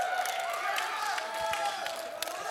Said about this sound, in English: If you ever get a chance to hear him, he's going to be sharing with us tonight. Let's give him a rounding, rousing applause.